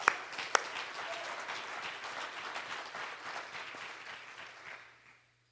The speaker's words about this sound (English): I think we can clap our hands for that right now.